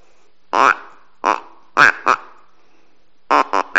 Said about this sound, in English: we would set up a blind there and call ducks, and maybe I can make this $1 million duck call work